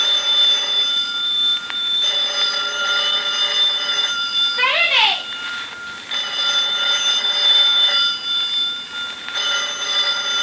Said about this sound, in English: will you answer the phone, please?